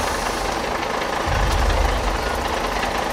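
bus engine idling

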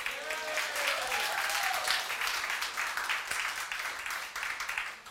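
audience clapping

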